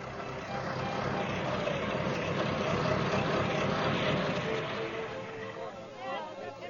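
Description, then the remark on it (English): A car engine idles steadily at a gas station with a low, continuous rumble, even in loudness, and a voice briefly surfaces near the end. “Well, that's a pretty nice car you've got there, Reverend.”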